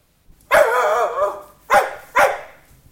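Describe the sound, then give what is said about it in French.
A spaniel named Drum barks three times: a long, drawn-out first bark followed by two shorter, sharp ones in quick succession, with no talking. “Mais vous avez un bel épagneul.”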